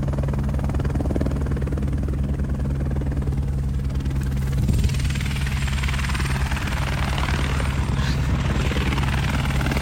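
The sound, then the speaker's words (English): A search-and-rescue helicopter, with Rangers coming off it, drones loudly and steadily, its low rotor thump and engine whine filling the whole stretch with no voices heard. “Coming off the helicopter, then, sorry.”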